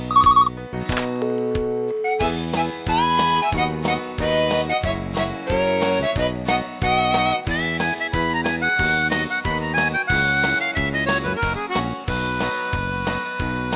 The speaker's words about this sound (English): The next thing her mobile phone did ring, just as I was about to put me hand on her.